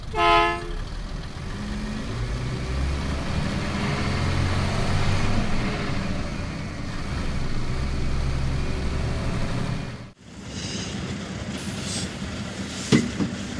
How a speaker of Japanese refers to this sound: このバスは北上駅へ行きますか？ はい、行きます。整理券をお取りください。